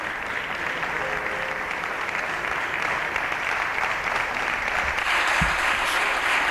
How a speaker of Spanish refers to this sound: Y siguen aplaudiendo. Un largo aplauso para un ministro y sin abucheos, porque normalmente estos largos aplausos van acompañados de patadas y ¡oh, fuera!